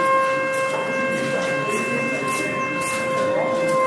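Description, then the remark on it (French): A siren sounds at 8:00 to start an exam at a CEG exam centre in Mono, in one long, unbroken blast, holding a steady, buzzing pitch rich in overtones at a loud, even level over faint background noise. “8h00, la sirène retentit.”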